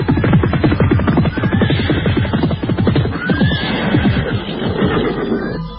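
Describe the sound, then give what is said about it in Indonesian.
A dense clatter of many hooves from people on horseback pounds steadily and loudly, coming nearer, with a horse whinnying briefly over the galloping rhythm. “Ketika mereka tengah sibuk berbincang-bincang di ruangan pilih, pada saat itulah terdengar derap orang-orang berkuda, semakin lama semakin dekat.”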